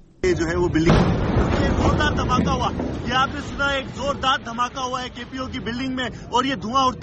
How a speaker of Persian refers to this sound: گزارش دهی زنده تلویزیون دان از لحظه یک انفجار در قرارگاه مرکزی پلیس در شهر کراچی، بزرگترین مرکز تجارتی پاکستان.